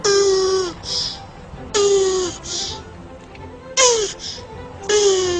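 A happy tortoise gives four squeaky, whining calls at a steady pace, each sliding down in pitch and followed by a breathy hiss, like a strained creak then a puff of air.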